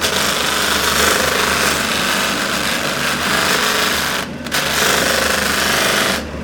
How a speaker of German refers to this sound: Das ist jetzt der sogenannte Schwabbel.